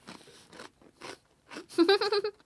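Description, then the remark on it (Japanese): Several short, crisp crunching bursts of someone chewing food, separated by brief pauses, then a louder stretch of chewing with a muffled, voiced hum mixed in. “いいよ飲み込んでからでいいよ。”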